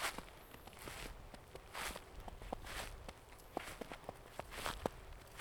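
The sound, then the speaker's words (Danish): Steady footsteps crunch through snow at an even walking pace as someone walks along hare and fox tracks. Each step is a soft, gritty crunch, with no voices, just the rhythmic tread continuing for several seconds. “Sneen knaser under min vægt.”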